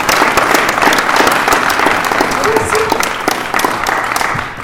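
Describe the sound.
An audience at an AA (Alcoholics Anonymous) meeting breaks into sustained applause, a dense, steady wash of many hands clapping at once, staying loud for several seconds with a few scattered voices mixed in.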